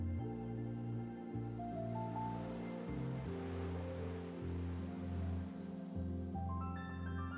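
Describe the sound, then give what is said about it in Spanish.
Soft, gentle sea waves wash in a slow, steady swell at night, heard quietly beneath sustained, calm tonal notes that shift every few seconds. No one speaks. “Y ya, en la noche, puedes observar las estrellas en el cielo, mientras escuchas el suave murmullo del mar.”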